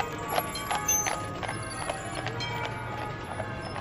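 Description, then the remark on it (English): Hooves of Percheron-cross-Standardbred carriage horses clip-clopping on pavement on Swanston Street, Melbourne, in a steady, even rhythm, moderately loud, with a low hum of street background underneath. “From Federation Square, we walk past St Paul's Cathedral, down to Swanston Street, where carriages of beautiful horses wait to take visitors around the streets of Melbourne.”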